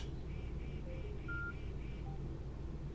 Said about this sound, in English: The headset is now off and has disconnected from my phone. You probably heard the little beep, which was my phone being disconnected from the headset.